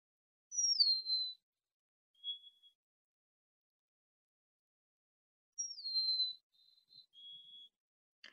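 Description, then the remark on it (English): A high, clear whistled bird call heard in spring, remembered as sounding like 'oh dear me': a loud note slurring downward, then shorter, fainter whistles. The phrase repeats after a long silent pause, with no talking. “And so another thing with learning to identify bird calls is trying to like think of a way to remember it.”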